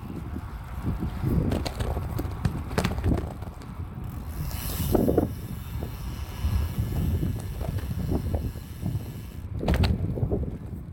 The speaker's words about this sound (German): Da hört man noch am Ende den Freilauf surren. Nach so viel Regen und doch einigen Kilometern schon hast du ein gut gewartetes Radl gehabt.